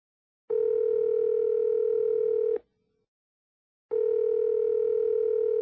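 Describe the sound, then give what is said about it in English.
A steady electronic telephone tone plays in two long bursts separated by a silent pause, as a call rings through to a cell phone. Loud and clear, with no voices. “Hi, this is Jim, and you've reached my cell phone.”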